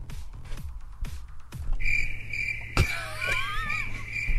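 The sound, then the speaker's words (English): A few soft knocks give way to crickets chirping in a steady, continuous high trill that carries through to the end, fairly loud, with no voices. “The delayed time leading into the crickets means that even Aaron isn't listening.”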